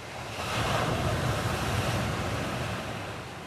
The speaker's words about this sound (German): Sie sind plötzlich da, entstehen wie aus dem Nichts und haben oft verheerende Folgen. Monsterwellen mitten auf dem Ozean können 10, 15 Meter hoch werden und die größten Schiffe zum Kentern bringen.